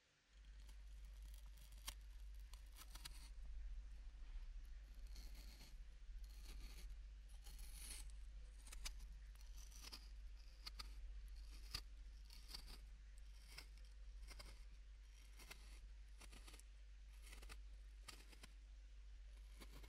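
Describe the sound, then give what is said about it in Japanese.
A May Queen potato being peeled with a knife: a steady run of crisp, short scraping strokes at an uneven pace over a constant low hum, with no talking. “と言いますのは、他の方のリクエストにメイクインのジャガイモを剥くととってもいい音がするというリークがあったからです。”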